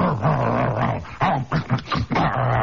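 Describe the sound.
A voice imitates a rumbling sheet metal bus with big, flat, solid rubber tires riding over a slag road: a low, gravelly growl that lurches and shudders in a few choppy bursts, loud and wordless for about three seconds.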